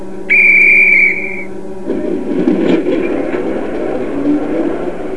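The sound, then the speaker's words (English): A train whistle gives one steady, high-pitched blast lasting about a second, then the loud blast gives way to a continuous rumbling, clattering noise of the train moving. No one speaks. “The trains will start.”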